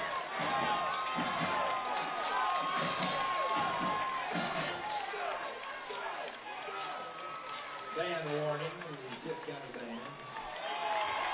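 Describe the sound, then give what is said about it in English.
A dense wash of home crowd noise fills a football stadium, many voices cheering and shouting together with sustained whistle-like tones, steady and fairly loud throughout. “Our folks finally cheer.”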